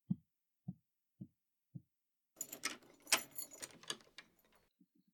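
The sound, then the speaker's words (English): Four evenly spaced low knocks or footsteps, then a burst of bright metallic jangling and clicking as keys rattle and turn in a door lock, ending with a couple of soft thuds. “Oh, you locked the door?”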